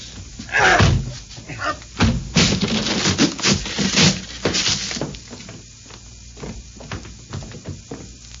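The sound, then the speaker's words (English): Holmes and Watson force a door down: a series of heavy, irregular slams and thuds, loud and booming, with splintering crashes in the middle and smaller knocks trailing off afterward. “The door must come down.”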